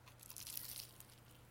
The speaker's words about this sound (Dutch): Maar dan in een bladerdeegbakje. En als zit hier, zit dan ook nog eens een keer een lekker laagje karamel onderin. Maar dat is echt lekker. Kan je nog één keer dicht bij de mic even een hap nemen? Gewoon voor het Evil Terror.